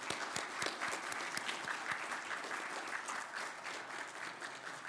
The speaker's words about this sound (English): And let's go ahead and give Caleb a round of applause.